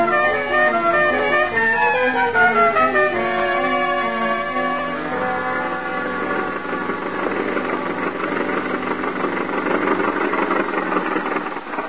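A car engine runs steadily, its tone shifting and rising at first before settling into a continuous rumbling drone, with no voices.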